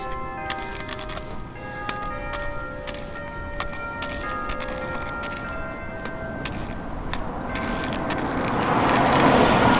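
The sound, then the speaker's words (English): Several bells ring in a steady flurry of strikes, their tones overlapping and lingering, heard while walking past them down Main Street, over street noise that swells into a louder rush near the end. “Walking right past the bells, but you're facing the wrong way for successful recording.”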